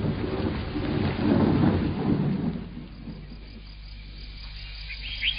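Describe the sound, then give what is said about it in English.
A rolling rumble of thunder swells over steady rainfall, peaking early and then fading away, leaving a softer hiss of rain with faint insect chirps in the background. “It'll rain forever and ever.”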